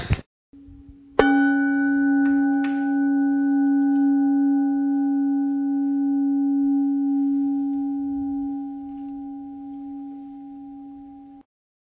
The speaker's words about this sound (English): It's almost like a siren, as you know, these bowls, and it just fills the room without being a crashing sound. And I like that because it has a real presence to it without having a violence of its own the way a gong might, you know.